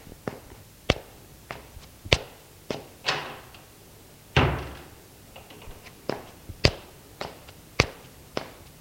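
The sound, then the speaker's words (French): The door of a father's bedroom being opened: a string of sharp wooden clicks and knocks at an uneven pace, with a couple of heavier, resonant thumps partway through. No one speaks. “Une porte s'ouvrit.”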